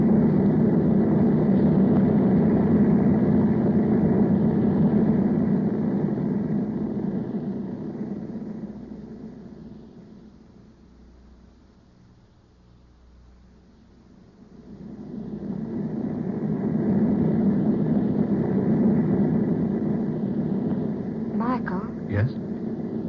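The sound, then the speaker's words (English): A steady, rumbling airplane engine drone fills the cabin, dipping to a quieter hum midway before swelling back to full strength, with a brief higher squeak near the end. The plane is flying above the rain, bound to land at Monterey. “We flew above the rain before it started.”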